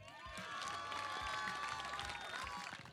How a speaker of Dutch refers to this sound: Een applaus voor de Libra Bikers. Fantastische prestatie, 2e plaats.